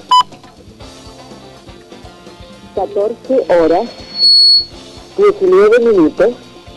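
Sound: landline telephone dialing tones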